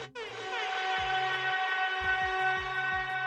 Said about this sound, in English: Let the siren go, buddy. For fucking Kaapo Kakko.